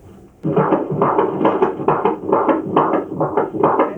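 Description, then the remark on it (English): A fetal heartbeat on a Doppler monitor at a prenatal checkup, the mother lying on her left side on the table; a fast, steady galloping whoosh that starts abruptly and pulses loudly and continuously, with no voices over it. “We're gonna listen to the heartbeat now.”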